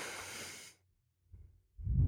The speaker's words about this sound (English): No, it's my blowing.